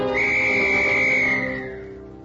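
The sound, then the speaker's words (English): A shrill little tin whistle sounds one long, steady high note for over a second, then it fades away beneath a low, steady hum. “And that made the little tin whistle seem more important to me than ever.”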